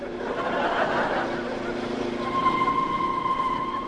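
A train approaches a level crossing with closed gates, with a broad rumbling roar, and about halfway through a steady, high whistle tone comes in and holds to the end. Faint voices may murmur underneath.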